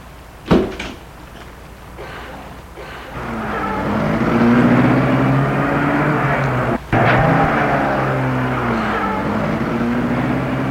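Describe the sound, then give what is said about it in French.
People get into a company car: its door thumps shut, then the engine comes up and runs steadily with a rising hum as the car pulls away, briefly dipping once as it shifts. “Ils entrent dans la voiture.”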